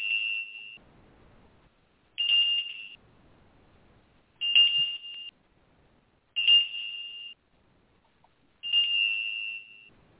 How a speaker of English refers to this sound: I will ring my ritual bell.